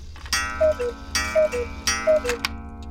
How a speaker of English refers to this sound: a grandfather cuckoo clock that belonged to his father strikes two.